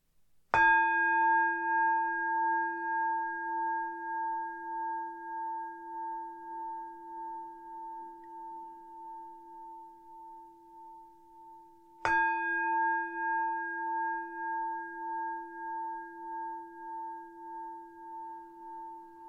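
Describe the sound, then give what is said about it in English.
A meditation bell is struck twice at the start of a guided meditation, about twelve seconds apart. Each strike rings out clearly and sustains a long, slowly fading hum amid quiet. “So if you want to take a moment to make yourself comfortable, I'll start with three sounds of the bell.”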